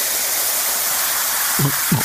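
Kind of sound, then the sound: household object, liquid pouring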